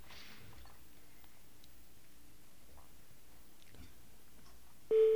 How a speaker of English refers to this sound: Ah, it's ringing. That's an interesting ring.